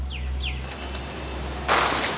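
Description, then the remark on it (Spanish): A few short bird chirps over a steady low hum, then a sudden burst of fluttering wings as a flock of birds takes flight. “Una bandada de aves echa a volar.”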